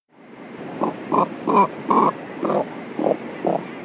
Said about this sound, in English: Let's listen again to the limited vocal range of the cormorant, whose syrinx is controlled by only one set of muscles.